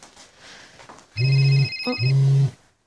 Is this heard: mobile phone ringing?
yes